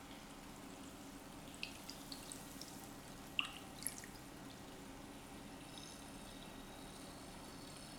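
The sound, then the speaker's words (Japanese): Soft watery splashes and drips over a steady low hiss, with a few brief sharp plops and gentle sloshing as a person's head is dipped into a washtub of carbonated water. “そしたら、ね、たらいの炭酸水に頭がちゃぽんって。”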